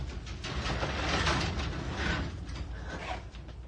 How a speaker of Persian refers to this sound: عباس لنگ لنگان به سمت در میره و در آژانس رو باز میکنه